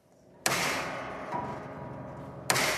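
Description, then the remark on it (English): Two sharp, loud twangs of strings snapping on a virtually unplayable piano that is being rebuilt, with all 230 strings to be changed. Each twang is followed by a long, shimmering metallic ring that fills the gap, with a smaller jolt in between. No one speaks. “That's the brutal sound of the strings being snapped.”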